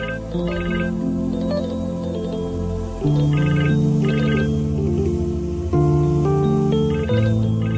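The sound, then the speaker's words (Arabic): A phone ringtone plays a continuous electronic melody for several seconds, loud, its sustained tones shifting pitch every few seconds with no voices over it. “ليش بترد؟ خليه يرن.”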